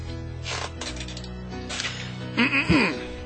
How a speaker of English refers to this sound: Clearing your throat.